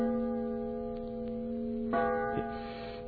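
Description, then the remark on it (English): A clock strikes the hour with deep, resonant bell tones, each stroke ringing out over a long humming sustain, the blows coming at a slow, uneven pace with no voices. “It seems like that clock is striking my doom.”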